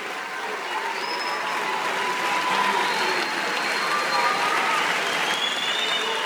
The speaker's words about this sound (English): The former military general was found guilty of genocide for ordering massacres against indigenous Mayan people during the early 1980s. When the verdict was announced, the courtroom broke into applause.